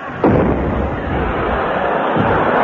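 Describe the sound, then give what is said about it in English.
A loud cannon blast fires a shell near the start, followed by a long, heavy roaring rumble that lingers and swells again toward the end, with no voices. “And now we come to lot three, one cannon shell.”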